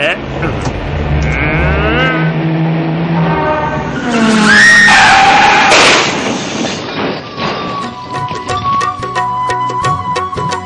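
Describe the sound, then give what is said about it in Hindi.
A car engine revs loudly while tires screech and skid for a few seconds as the car reverses and drives off, then the vehicle rumbles on as the noise thins out, with faint voices underneath. “पीछे लेकर के और सीधा निकलूं यहाँ से।”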